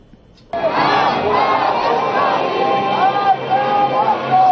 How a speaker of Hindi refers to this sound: यौम कुद्स के जुलूस तेहरान यूनिवर्सिटी पर जाके ख़त्म हुए। इन जुलूसों में इसराइल मुर्दाबाद और अमरीका मुर्दाबाद के नारे लगाए गए और सरजमीन फ़लस्तीन और कुद्स शरीफ की आज़ादी को मुस्लिमीन आलम का अहम तरीन हदफ करार दिया गया।